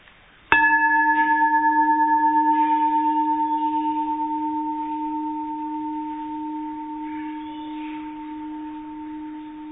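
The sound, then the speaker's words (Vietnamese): A single bell is struck once for a group listening exercise in calm attention, giving a sharp onset followed by a long, steady ringing tone that slowly fades over several seconds, heard alone with no voices. “Trong cái giây phút nghe tiếng chuông trong đầu như thế nào?”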